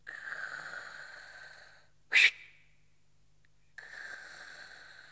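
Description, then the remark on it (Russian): Heavy, wheezy breathing of a patient during a medical exam, told by the doctor to breathe: a long noisy breath, then a sudden loud snort-like burst, a quiet pause, and another drawn-out raspy breath. No one speaks. “Вы ведь прекрасно знаете, что от вас требуется. Дышите.”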